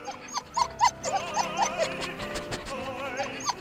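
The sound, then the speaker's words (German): A dog lying under a large grand piano whimpers and howls in a run of high, wavering whines that rise and fall one after another, fairly loud, with no voices. “Aber bei einem Hund weiß man ja nie so genau, wenn er jault, was das dann eigentlich jetzt heißen soll.”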